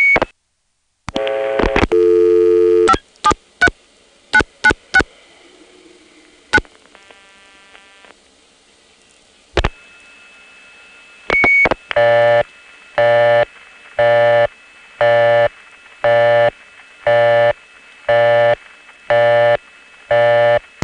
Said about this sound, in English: Finally, here's a call to a crossbar 5 in Falls Church. We get an N3 carrier trunk, and during the Arlington cut-through, you can actually hear the wire trunk being in oscillation for just an instant, like this.